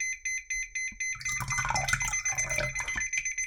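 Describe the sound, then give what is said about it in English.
A liquid level indicator hung over a cup gives rapid, high-pitched electronic beeps in a steady pulsing series. After about a second, a rushing, splashy sound of water being poured into the cup joins in, with the beeping continuing over it. “It will start beeping again, and then I'll fill it up a little bit more and you'll hear the difference in beeps.”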